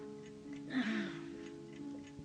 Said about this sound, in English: Get up, knock on the ceiling